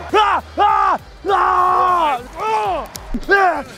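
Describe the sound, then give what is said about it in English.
A man lets out a string of loud, drawn-out yells, five strained hype shouts in quick succession, the longest in the middle, like a rousing battle cry, getting himself fired up as he comes out of the tunnel. “And then as I yell, I get myself more hyped.”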